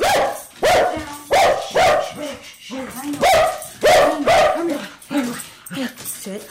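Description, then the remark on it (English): A dog barks fiercely and repeatedly at newcomers, loud sharp barks in an uneven volley of eight or so, with a few higher yips mixed in. “her dog, Otis, who greets newcomers with a fierce bark that fades when the treats come out”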